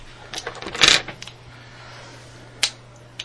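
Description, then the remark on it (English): A quick burst of hard clattering clicks as dice tumble across a table during a tabletop role-playing game, rolled for attack damage, peaking in a sharp rattle, then a lone click moments later. It is clear, with no talking. “It's going to be dice 10 plus 7.”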